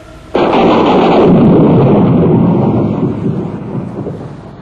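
A loud crack of thunder over a stormy sea bursts in suddenly, then rolls into a long, deep rumble that slowly fades over several seconds, with no voices present.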